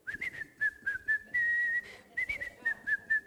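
Someone whistles a bouncy, upbeat melody, with short quick notes and a couple of longer held tones, clear and fairly loud with no talking.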